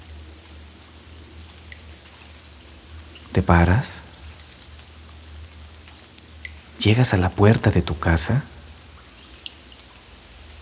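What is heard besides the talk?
rain falling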